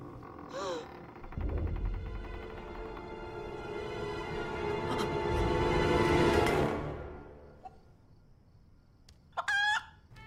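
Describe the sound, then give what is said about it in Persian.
A chicken clucks and squawks, starting with a short call, rising into a long, loud stretch of agitated cackling, then ending with a couple of sharp, quick clucks. “آه یه مرغه.”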